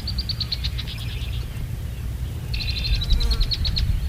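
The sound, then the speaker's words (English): Shorebirds, including red knots and ruddy turnstones, call in two quick runs of high, piping chirps, separated by a short pause, over a steady low rumble like wind or surf on a beach where a team waits to catch them. “They wait for the right species of birds to land in the catch area.”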